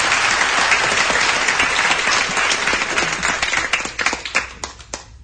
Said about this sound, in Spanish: así que pues nada, os pido un aplauso muy fuerte para ella y felicidades.